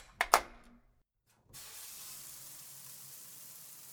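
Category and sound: household object, shower water running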